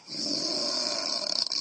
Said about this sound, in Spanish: Esto es una puerta. Pero no has dudado, ¿eh? Te me voy a dudar, si se oye la bisagras. Pues no, pues es ronquido. Ah, pues le felicito al cerrajero. Tiene bisagras nasales este hombre que hemos pillado por ahí.